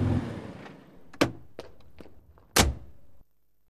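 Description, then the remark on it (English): A car door shuts with a solid thunk as someone stops the car and gets out, preceded by a lighter knock and small clicks, all over a low engine-like rumble that cuts out just after the slam. “Stop the car and get out.”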